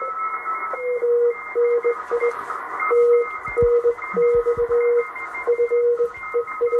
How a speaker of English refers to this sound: And he's listening to stations and listening for stations who are sending a Morse at a sufficient speed for him to read, because it's no use talking to somebody if they send a lot of very fast Morse back to you.